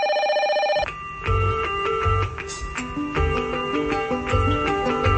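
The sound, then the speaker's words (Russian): A brief electronic telephone ring sounds at the start, before a listener's call, a steady high-pitched trill lasting under a second, then gives way to an upbeat jingle with a thumping beat. “Скончим программу таким телефонованием.”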